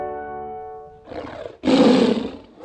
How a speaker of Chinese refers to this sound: 哦，这个声音有时候听起来像老虎，也像狮子啊。不过这边就是老虎叫的声音。